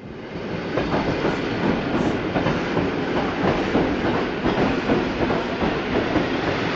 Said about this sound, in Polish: O 16 na siedlecki dworzec PKP wjechały pierwsze pociągi z pielgrzymami. Pociąg pielgrzymkowy z Terestała wjedzie na tor 4 przy peronie 2.